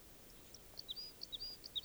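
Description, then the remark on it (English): Type 2 crossbill song and calls from at least three birds near a camp, one singing about 150 meters from the other two: three quick clusters of high, sharp chip notes mixed with short whistled tones, fairly faint over a soft steady background hiss, with no voices. “Warning, there's at least three type 2 crossbills near camp singing and calling.”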